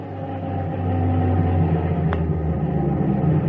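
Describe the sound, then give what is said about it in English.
Heavy truck engines rumble and drone at a low pitch as trucks pull up to barracks, swelling louder within the first second and then idling steadily, with one brief metallic click partway through. No one speaks. “The eighth week, the trucks pulled up to our barracks.”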